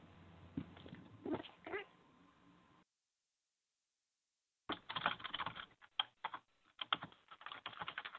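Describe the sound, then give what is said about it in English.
Rapid clicking of keys on a computer keyboard by a quiz participant during a 20-second answer time, fairly quiet, in two bursts separated by a few seconds of silence, the second flurry busier and more irregular. “I can hear you typing on there, eh?”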